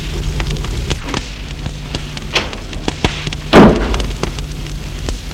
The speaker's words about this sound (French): Et la bonne a fermé la porte.